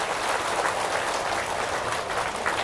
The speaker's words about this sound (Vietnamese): Quý vị hãy dâng cao một tràng vỗ tay để tán dương.